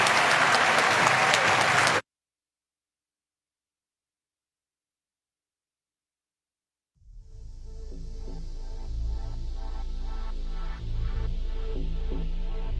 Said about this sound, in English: let's give a gigantic round of applause to Speaker Nancy Pelosi